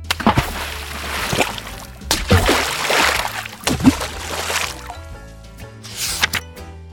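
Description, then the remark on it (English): Floating toys are put one after another into a full paddling pool, splashing in with four or so irregular plops and sloshing in between, over a soft musical background. “Kipper decided to get every toy that would float and put them all in the water.”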